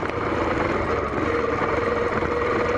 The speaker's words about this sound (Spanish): Escuchamos que una moto subió, dio la vuelta y se parqueó ahí.